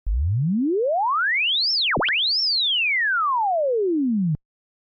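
A steady pure tone sweeps smoothly upward from a low hum to a high whistle, dips sharply, then glides back down to a low pitch before cutting off. No voices, constant loudness.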